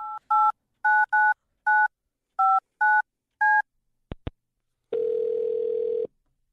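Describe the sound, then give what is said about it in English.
A rapid series of about ten clear touch-tone beeps as a middle school's phone number is keyed in, followed by a couple of sharp clicks and a single long, steady ringing tone. “So we're going to give his middle school a call.”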